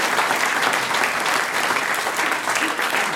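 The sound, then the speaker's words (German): Steady, dense applause from an audience fills the whole stretch, a continuous crackle of many hands clapping at even loudness with no voices standing out. “Der Applaus zackt, ja.”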